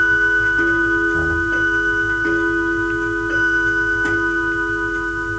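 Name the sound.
clocks ticking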